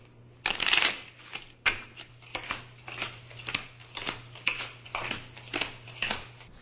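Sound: playing cards being shuffled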